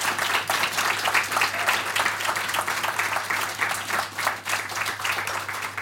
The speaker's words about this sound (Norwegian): Ja, det nyutnevnt statsråd, og heimvendt også I anledning kvelden, Byåsing, Oddmund Løkensgård Hoel, og stortingspolitiker fra Rødt, Mimir Kristiansen. Gi deg en applaus.